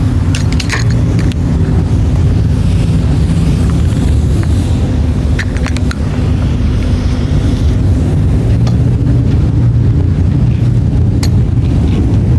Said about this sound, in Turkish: Çünkü vapur o deviniminden uzaklaşıyor şu an. Bakın sesi falan değişti. O duru gidiyor. Artık deniz dalgalarından, denizin dalgası daha farklı bir hale alıyor. Çünkü vapur yanaşma noktasında.